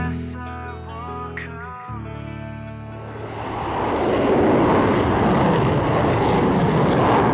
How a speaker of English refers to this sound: Of course, maybe that's because he's got all those jet engine sounds in there, which kind of get my juices flowing.